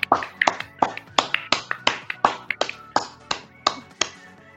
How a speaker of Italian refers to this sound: Quindi ragazzi, applauso, applauso. Sì.